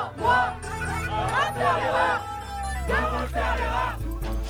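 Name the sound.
concert crowd cheering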